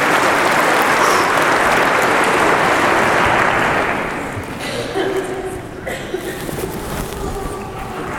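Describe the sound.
An audience claps loudly and steadily for about four seconds for a child who correctly picked out his dad's voice, then the applause thins out and fades while scattered voices and movement carry on underneath.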